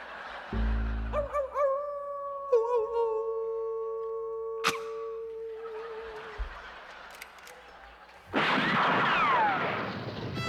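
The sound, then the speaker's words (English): On Riders Radio Theater, a voice plays the third coyote as a non-union cat with a hairball trying to howl like a coyote: a strained, wavering yowl held for a few seconds, cut off by a sharp crack, followed by hissing noise and a loud rushing burst. “The part of the third coyote will now be played by a non-union cat with a hairball.”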